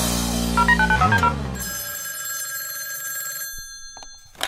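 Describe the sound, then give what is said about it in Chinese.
A short musical sting in a radio call-in hotline jingle gives way to a bright, continuous telephone bell ringing for about two seconds, then it fades out and a brief click follows. No one speaks. “打电话给我。 无线飞行号，热线准时开通，等你来电。”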